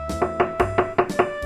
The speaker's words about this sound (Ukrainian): Ну що, стукаємо в двері?